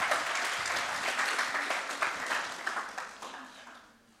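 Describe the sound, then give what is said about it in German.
A crowd applauds steadily for a person who volunteered to speak, many hands clapping in a dense, even patter that fades out toward the end. No one speaks over it. “Bitte Applaus für Chantal. Аплодисменты, это Chantal.”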